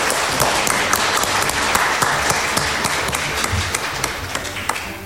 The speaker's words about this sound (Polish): myślę, że po prostu za chwilę zaczniemy, ale na początek liczę na olbrzymie brawa dla naszych naprawdę odważnych mówców, którzy zdecydowali się w tak innowacyjny i nietypowy sposób wziąć udział w dzisiejszej debacie. Proszę o brawa dla mówców.